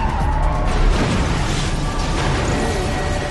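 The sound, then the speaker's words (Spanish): A loud car crash in traffic rings out: a sustained burst of crunching, grinding noise over a heavy low rumble, filling the whole moment with chaotic impact sound and no voices. “¿Qué ha sido eso? Se ha dado un golpe.”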